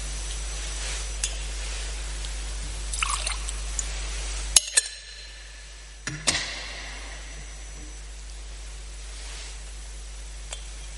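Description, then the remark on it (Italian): A small splash of water is poured into wine in a chalice, with a couple of faint clinks of the vessel over a steady low hum. “L'acqua unita al vino sia segno della nostra unione con la vita divina di colui che ha voluto assumere la nostra natura umana.”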